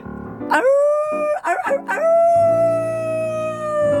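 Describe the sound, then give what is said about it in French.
A person imitates a wolf's cry, their voice sliding up into long, sustained wavering tones, loud, with a brief break in the middle before holding the final note. “Ça ressemble à quoi, le cri du loup ? Oh là là ! Estelle, pardonne-moi si je le fais pas bien.”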